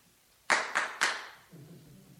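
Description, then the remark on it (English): Three sharp hand claps at a door in quick, slightly uneven succession, used as a Brazilian-style doorbell instead of knocking, each crisp and bright with a short ringing tail, followed by faint low murmuring. “And anyway, she heard the Brazilian doorbell and the clacking at her door.”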